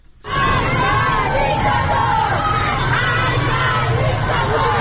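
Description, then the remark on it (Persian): A large crowd of protesters in Tehran, Iran, raises a loud, continuous roar of voices, shouting and chanting together. The mass of overlapping voices holds steady for several seconds with no pause. “به چند صدای اعتراضی در مناطق مختلف تهران گوش کنیم.”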